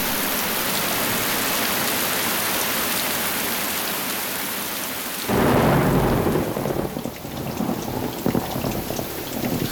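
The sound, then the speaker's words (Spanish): Steady heavy rain hisses across the whole recording, then midway a deep rumble of thunder rolls in and lingers beneath the downpour. No one speaks. “Lluvia otra vez, no, por favor.”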